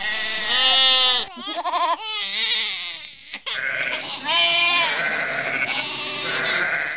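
Sheep bleating loudly, several wavering baas following one another almost without pause, some overlapping, with no talking.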